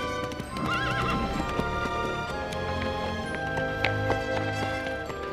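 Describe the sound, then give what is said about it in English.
Horse hooves clip-clop steadily past as a horse-drawn carriage driven by Pete barrels along a muddy road, and a horse whinnies loudly near the start, all over a continuous, busy tonal background that sounds like music. “They move aside as a horse-drawn carriage barrels past them on a muddy road.”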